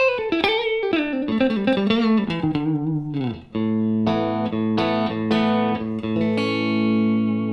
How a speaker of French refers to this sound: Et là j'ai enclenché par mégarde, mais c'est très bien aussi, le micro simple bobinage tout seul. Et même si je le règle très baissé, on entend que la compression compense le volume.